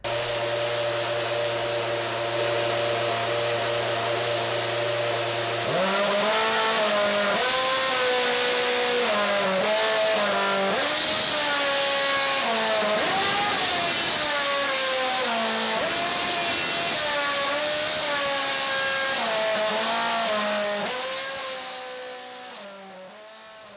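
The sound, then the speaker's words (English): A loud race car engine revs up and down in pitched steps, its whine rising and falling to pick out a recognisable melody, then fades at the end; no one speaks. “this is a race car engine playing Happy Birthday”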